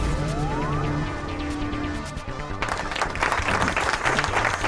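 A brief electronic tone with a rising sweep gives way to a sudden burst of steady, dense audience applause that keeps going, loud and clattering, to the end.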